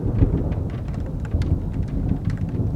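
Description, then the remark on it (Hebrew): A low, muffled rumble of distant thunder rolls steadily beneath a soft patter of rain on a street at night, around 4 a.m., with scattered light drops ticking over the continuous deep roar. “רעם עמום נשמע במרחק, ונזכרתי שבמהלך הלילה שמעתי גשם עולם ברחוב.”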